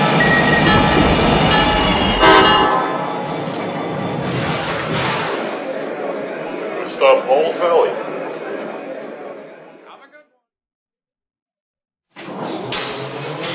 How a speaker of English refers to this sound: City on track number one, train number 821, the Heartland Flyer.